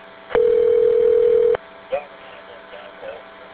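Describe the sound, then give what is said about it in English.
A loud, steady telephone dial tone hums for just over a second, then cuts off and is followed by one short dialing beep and faint, muffled phone-line noise, as a caller phones Floyd County Schools. “I'm calling work right now to see if”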